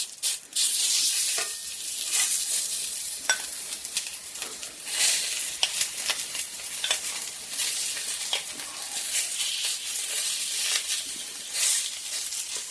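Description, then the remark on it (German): Steady sizzling of chili flakes frying in very hot olive oil, a dense hiss with scattered crackles and pops throughout, plus occasional stirring sounds, with no talking. “Ein kleines Flöckchen Chili. So. Olivenöl ist schon ein bisschen sehr heiß. Jetzt geht's los.”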